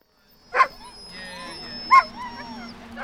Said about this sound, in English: More than a dozen sled dogs are excited to go to work on a snowy afternoon just east of Park City in the town of Peoa. The pack includes Malamutes, Greyhound mixes, and an Alaskan Husky with cloudy eyes.